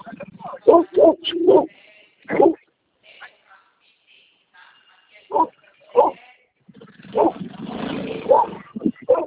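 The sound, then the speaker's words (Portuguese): A dog that nearly bit a person riding a motorcycle barks in sharp, repeated bursts, some clustered together and others spaced apart, ending in a flurry of yips and barks, heard during a phone call through a narrow, phone-like recording. “Pode falar, que eu estava andando de moto, um cachorro aqui quase me mordeu.”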